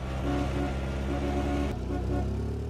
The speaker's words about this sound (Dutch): 2 auto's suisden me voorbij terwijl ik door een dorp stapte.